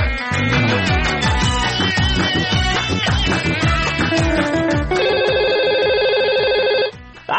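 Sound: telephone ringing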